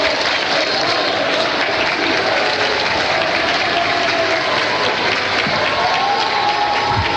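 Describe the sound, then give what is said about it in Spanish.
A large crowd of people, including palace workers and children, some holding flags, applauds steadily for several seconds inside the Palacio de la Moneda, a dense, continuous wash of clapping with faint rhythmic chanting voices blended in underneath, chanting "Boric, amigo, el pueblo está contigo" for President Gabriel Boric. “Varias personas, ustedes las están viendo con varias banderas, aplausos, fotografías, hay niños también, bueno, son parte de los trabajadores acá del Palacio de la Moneda”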